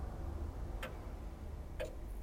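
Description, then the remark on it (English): A clock ticks twice, sharp dry clicks spaced exactly a second apart, over a low steady background rumble. “The clock has been forgotten.”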